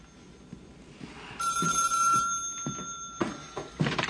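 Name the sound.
telephone ringing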